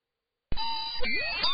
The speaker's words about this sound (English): Oh, that's the wake-up buzzer.